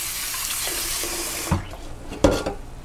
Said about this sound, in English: So now we will wash it. You thoroughly wash it. It's better to wash it with cold water.